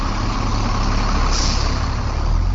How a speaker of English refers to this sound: In the University District of Madison, a bus idles while the morning students and urban commuters climb aboard.